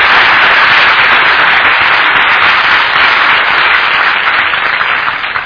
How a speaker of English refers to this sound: Let's give Jesus a clap offering. Thank you, Jesus.